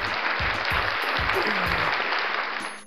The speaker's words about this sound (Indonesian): Tepuk tangan yang meriah, bos.